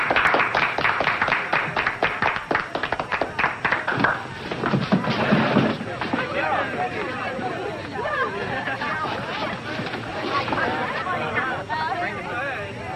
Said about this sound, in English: A friend of ours would like to sing. Let's give her a nice warm round of applause.